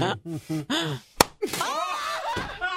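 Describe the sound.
A single sharp, loud backhand slap to the face during a tortilla slap challenge knocks a man's head up and water out, cracking out between excited voices, with raised talking and exclaiming before and after the hit.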